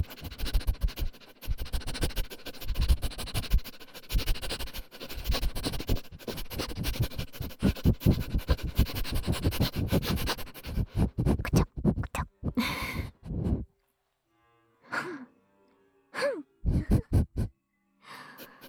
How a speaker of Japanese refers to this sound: 本日のいたずらは両耳クンクンしてみました。 このこうやって移動するクンカクンカ、なかなかくすぐったいものがありました。